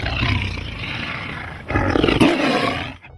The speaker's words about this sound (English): The Lion.